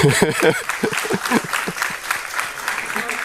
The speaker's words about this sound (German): Willkommen und schön, dass ihr es so zahlreich geschafft habt. Ihr dürft auch jetzt schon gerne klatschen.